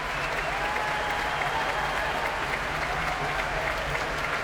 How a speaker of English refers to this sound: Keith Lockhart coming back onto the stage now to take more applause. The BBC Concert Orchestra play this kind of music so well, don't they?